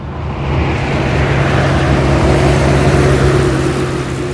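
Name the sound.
traffic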